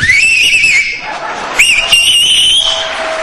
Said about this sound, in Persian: ببین این آقا سه تا انگشتشو یا دو تاشو گذاشته تو دهنش داره سود میزنه. من بهش میگم که توی جوون حیف دهنت گشاد میشه، نمیخواد انگشتا تو دهنت بکنی، شما همینجوری هم میتونی سوت بزنی.